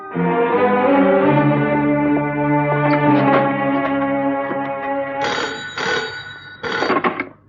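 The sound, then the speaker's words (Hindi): Several seconds of sustained, droning tonal music, then near the end a telephone rings twice as an outgoing call is placed, two short bright bursts; loud, with no voices. “उस दिन तुमने एक फोन किया था, आज मैं एक फोन करूंगा।”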